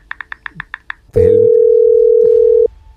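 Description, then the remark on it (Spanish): Seven quick, evenly spaced electronic beeps like keypad tones as someone dials a phone call, followed by a loud, steady telephone dial tone that holds for about a second and a half before cutting off abruptly. “Voy a llamar por teléfono.”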